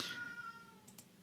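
cat meowing

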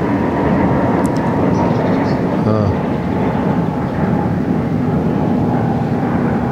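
airplane flying overhead

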